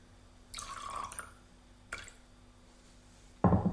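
A short splash of water poured into a glass of whisky, a bright trickle lasting under a second, followed by a brief drip and a louder knock near the end. No one speaks.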